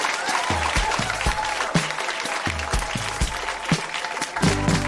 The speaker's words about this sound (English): Huge round of applause for all of our readers.